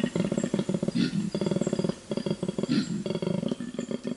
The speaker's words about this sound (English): I love the sound of grunting koalas.